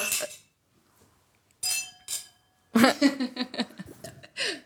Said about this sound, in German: Stoßen wir kurz an. Schön, Prost, dass ihr da seid. Schön, dass wir alle da sind.